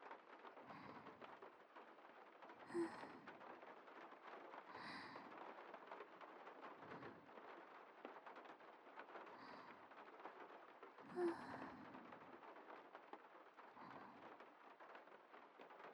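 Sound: rain falling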